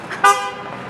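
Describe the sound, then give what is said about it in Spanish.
A single short, loud car horn honk with a bright, buzzy tone from a car that nearly ran the speakers over, fading into a steady low rumble of traffic. “Uy, que nos atropellan.”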